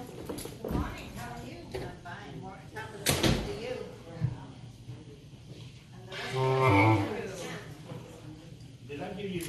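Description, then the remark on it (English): A door is opened and then shut, with a couple of sharp thumps standing out against a low murmur of people talking. “I'll get the door.”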